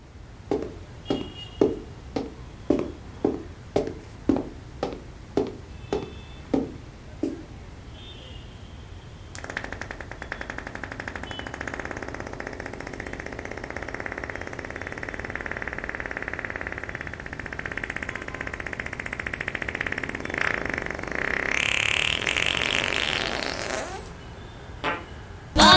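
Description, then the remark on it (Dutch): Farting: about a dozen short, evenly spaced blasts, then one long, steady, raspy fart stretching roughly fifteen seconds, finishing with a couple of quick pops. No one talks. “Maar een wind, dat is toch altijd grappig.”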